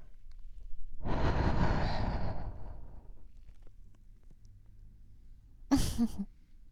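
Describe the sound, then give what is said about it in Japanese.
A long, soft breathy exhale blown at the listener, followed a few seconds later by a shorter, sharper puff of breath; no talking. “でも息風じゃなくて吐息をぶっかけてあげるわ。”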